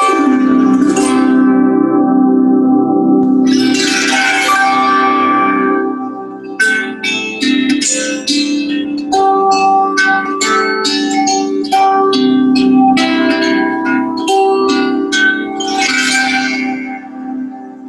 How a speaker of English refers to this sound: One of my favorite instruments to work with in the sound immersion is a reverie harp. So reverie harps have historically been used in hospice care, and anyone can play it, and it's just so beautiful and magical. I'll play it for you here.